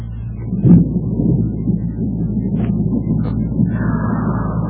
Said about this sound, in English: Oh, my, sounds like a storm blowing up outside, doesn't it, children?